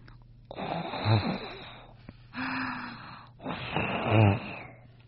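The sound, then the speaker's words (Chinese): A voice imitates a witch snoring inside a wooden chest: three drawn-out, rasping snores with throaty rumbles, fairly loud, each separated by a brief pause. “不一会儿啊，小伙子就听见箱子里面发出了巫婆打呼噜的声音。”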